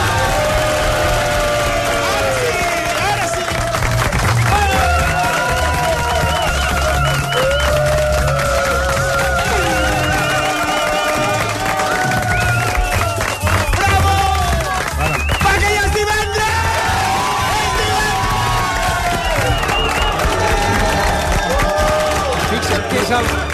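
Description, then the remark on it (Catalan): An audience, including visitors from Tarragona, Corbera d'Ebre, Sants, Sant Vicenç dels Horts, Girona, Ullà and Slovakia, cheers and applauds loudly and without letup because it is Friday, many voices whooping and shouting over a dense wash of clapping that holds steady the whole way through. “El que més aplaudiments i eufòria ha generat és que és divendres.”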